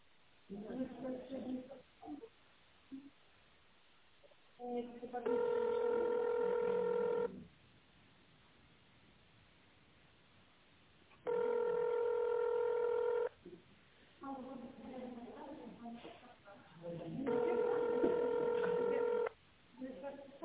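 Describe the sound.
Touch-tone DTMF signals dialing an employee's extension on a call to the company Oblachnye Seti (Cloud Networks): three long, steady electronic beeps of about two seconds each, separated by stretches of muffled talking on a phone line.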